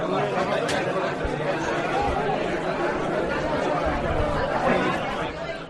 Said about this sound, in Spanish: Este bullicio que escuchas es la sala donde se ha inaugurado hoy nuevo centro de Stella Maris en el puerto de Palma para brindar apoyo humano y espiritual.